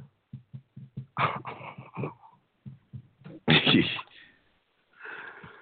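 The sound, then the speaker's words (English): A dog making noise: a run of short, low snorting huffs in a quick rhythm, broken by several louder, rough bursts that sound like sneezes or harsh snorts. “Oh my God, dog.”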